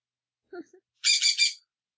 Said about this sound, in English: What the heck was that? It sounded like a bird.